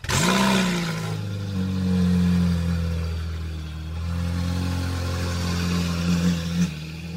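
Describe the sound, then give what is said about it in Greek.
A Lancia Stratos engine revs up sharply, then holds a loud, steady, throaty drone before a quick final blip of the throttle. Nobody talks over it. “Λάντσια Στράτος.”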